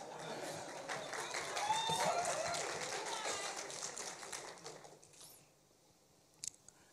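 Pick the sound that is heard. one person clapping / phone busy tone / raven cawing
one person clapping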